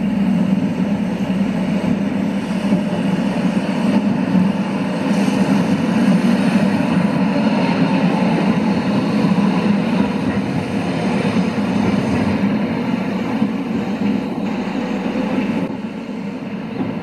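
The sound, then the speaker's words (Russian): A new, heavy tram rumbles steadily along the rails on a curve, a loud continuous low roar of wheels and motors lasting throughout, with no voices present. “Когда новые трамваи поступили, то шум именно на поворотах был побольше, чем у старых.”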